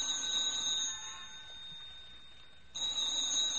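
A telephone rings in two bursts separated by a short pause, a shrill, steady high-pitched bell tone that cuts off and then starts again. No one speaks.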